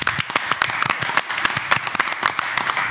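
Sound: applause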